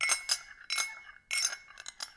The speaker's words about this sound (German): Nein, damit rühre ich in meiner Teetasse.